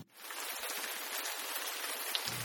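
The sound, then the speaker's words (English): Steady rain patters down in a dense, even hiss of countless tiny drops, fairly loud throughout, with no voices and no pauses. “No, that was not the sound of rain pitter-pattering down onto green leaves.”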